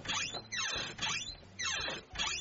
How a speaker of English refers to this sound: So my son has this door, it's really squeaky, and I was wondering if you'd fix it. Oh, squeaky door? Yeah, that's easy, I can do that. Just show me. Okay, it's over here. All right, here's the door. Listen.